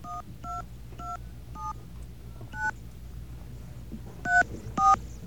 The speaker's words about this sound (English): Actually, I have to dial 0 area code number. Is that how it works now? Okay. 0 area code number.